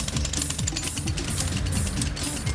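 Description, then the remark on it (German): Steady, dense machinery rumble with low engine drone and rapid mechanical clatter from heavy equipment working on a large construction site with excavators and cranes, continuous, with no voices. “Er fährt eine scharfe Kurve und ist schon auf der Baustelle.”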